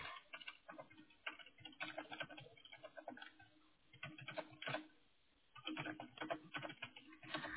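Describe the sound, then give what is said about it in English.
Rapid clicking of keys on a computer keyboard as a person types an answer, fairly steady, with a couple of brief pauses between bursts of typing. No voices. “Just a moment, please. I'm typing your answer.”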